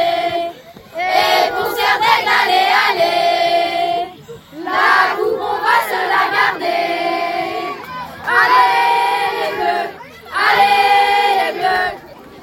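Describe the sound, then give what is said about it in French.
A crowd of young school students chants loudly in unison a cheer for the Serres d'Aigle house, rising in repeated bursts of shouted, rhythmic cheering with brief dips between phrases. “Alors, la plus motivée au niveau du chant, je dirais que pour l'instant, c'était les Serres d'Aigle.”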